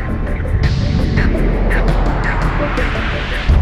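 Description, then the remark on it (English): A small airplane engine roars at high power during takeoff with winds over 10 knots, loud, a steady dense rumble mixed with rushing wind noise that swells slightly at the very end. “Commons, your takeoff, winds over the 10 knots.”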